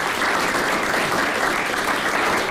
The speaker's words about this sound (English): Round of applause, ladies and gentlemen, our first two guests on the programme this morning.